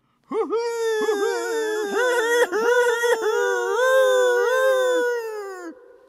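An eerie owl call rings out as one long, wavering wail of about five seconds. Its pitch bends and quavers before trailing away, echoing through the walls of a dimly lit, torch-lit cathedral.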